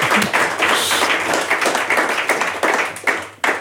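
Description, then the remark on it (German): Sustained applause from a group, a dense, steady wash of many hands clapping at once, loud and even throughout, fading briefly near the end before a last burst. “Das möchte ich mit einem Applaus jetzt festhalten.”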